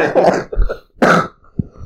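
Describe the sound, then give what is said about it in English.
Two loud coughs about a second apart, each a harsh burst with a throaty, rasping edge, followed by softer throat sounds. No one speaks. “Sorry for the cough, you have to mute that bit.”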